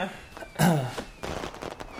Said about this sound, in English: Whoa, I didn't know you had fireworks here.